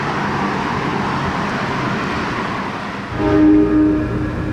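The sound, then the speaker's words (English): A subway train rumbles steadily through a station, then swells louder near the end as sustained tonal squeals or a horn-like whine ring out over the roar. No one speaks. “Where are we meeting this guy? In the subway.”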